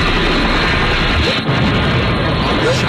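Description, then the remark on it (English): A loud, dense roar of crashing noise, like a helicopter being shot down and going down, sustained and chaotic for a few seconds with only a brief dip midway. “Did we shoot down the chopper?”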